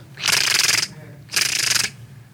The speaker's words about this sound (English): And then I put my keys in the ignition, and my car made this horrible clicking noise.